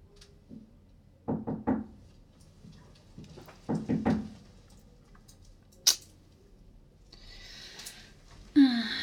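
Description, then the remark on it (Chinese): Knocking on a door in two short bursts, a couple of quick raps each, followed by quiet shuffling, a sharp click and some rustling toward the end. “真会挑时候。 开门。”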